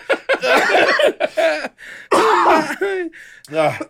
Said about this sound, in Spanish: A ver, tose.